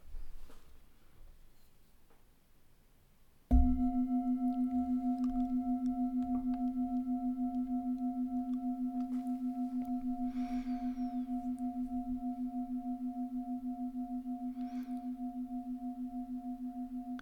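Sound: gong ringing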